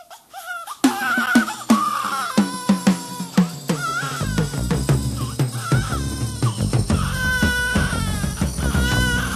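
A baby cries and babbles in short bursts at the start of an upbeat 1975 song with steady drums, bass and keyboard chords, the infant's voice clearly audible near the front of the mix.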